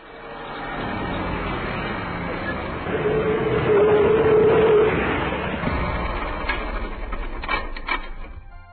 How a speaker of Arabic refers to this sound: فجأة أحباء الحلوين، ارتبك سائق الباص واضطر إلى أن يتوقف بقوة بعد أن ضغط على فرامل السيارة.